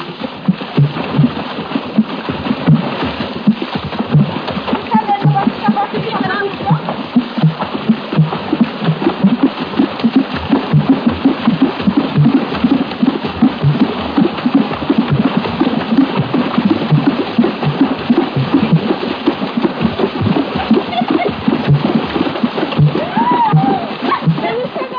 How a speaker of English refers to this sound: the women of a village dance hip-deep in a nearby pool. While dancing, virtually naked, they beat the water with their cupped hands, thereby producing the different rhythmic tones you hear. Of necessity, no water drum passage is a long one.